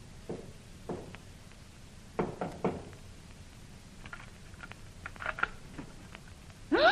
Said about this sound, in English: Knock on that door. Two slow, three quick.